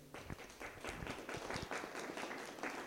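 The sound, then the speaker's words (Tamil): A church audience in Germany claps hands steadily to glorify God, a dense wash of overlapping claps with a few sharper individual slaps standing out, sustained and fairly loud throughout. “எவ்வளவு அழகா கைதட்டுறாங்கப்பா, God bless you.”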